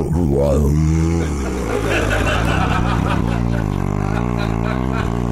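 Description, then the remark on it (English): A voice imitates a giant building air conditioner kicking in, a noise tied to living in Los Angeles: a rising, wavering hum that settles into a steady, loud droning whir with throaty buzzing undertones. “One of them is that noise, the noise of a giant air conditioner kicking in, because it goes.”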